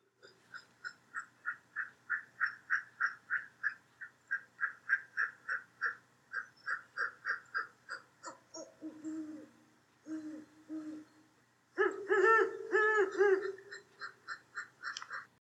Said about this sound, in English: Notice the difference in the voices of the male and female. She hoots faster than he does, and her voice has a higher pitch. So this is the 15-second recording that is called Great Horned Owl Courtship Exchange, and we'll play that for you now.